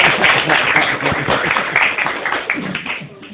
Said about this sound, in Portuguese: merece aplauso, merece?